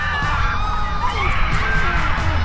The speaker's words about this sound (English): At their cries, all the Israelites around them fled, shouting, "The earth is going to swallow us too!"